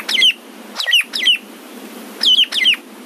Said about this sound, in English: Michael sent in this recording of a ground cuckoo shrike.